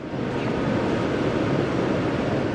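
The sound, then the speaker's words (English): A loud, steady roar of large pumps in an underground pump station at the Jones Island wastewater treatment facility, moving water from a deep tunnel up into the plant for treatment; a dense continuous rumble and rush with no pauses and no voices. “These pumps move water from the district's deep tunnel up into the plant for treatment.”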